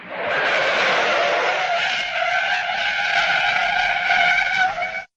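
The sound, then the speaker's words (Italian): A loud, sustained screech of tires as a car brakes hard on a street, the shrill squeal holding steady for about five seconds before cutting off abruptly. “Udii una tremenda frenata in strada.”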